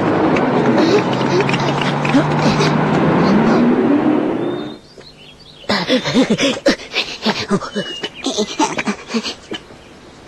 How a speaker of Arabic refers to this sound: ها ها هي السيارة قد جاءت.